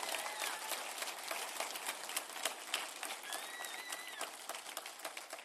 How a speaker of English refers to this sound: I want you to receive him with open hearts, open ears, and honor him with a thunderous applause, please.